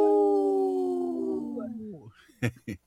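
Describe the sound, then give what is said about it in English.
A person imitates a wolf howl, holding one long steady note that slowly sinks and then slides downward to fade out, followed by two short, sharp vocal bursts. “I saw your neck went up like a wolf.”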